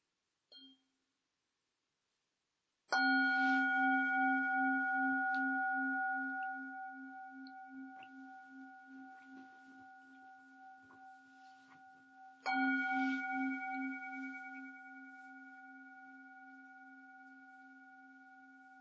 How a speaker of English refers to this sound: 11 o'clock. How about we enjoy a couple of sounds of the bell as people come back?